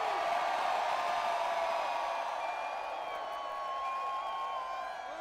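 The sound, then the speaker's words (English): A huge festival crowd at Tomorrowland in Brazil screams and cheers on a count of three for a photo, one sustained, dense roar that holds steady for several seconds before easing slightly at the end, a bright wash of many voices with no clear words. “One, two, three, scream!”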